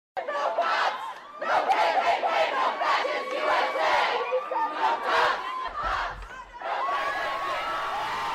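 A large crowd of protesters cheers and shouts loudly and continuously as they topple a Confederate soldier's monument, dedicated in 1924, in Durham, North Carolina. Whoops and yells rise in waves, with a brief low thud partway through, and the roar holds steady to the end.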